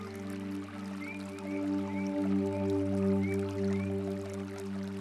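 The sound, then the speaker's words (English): Soft, steady stream water runs continuously beneath a sustained, droning musical tone, with a few faint bird chirps now and then; no one speaks. “Close your eyes and imagine you are sitting beside a gently running stream.”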